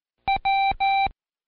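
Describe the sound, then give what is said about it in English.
Morse code beeps from a keyer spelling the letter W: one short tone followed by two longer ones, a steady, clear electronic pitch, loud with nothing else around it. “It's a short beep followed by two long beeps.”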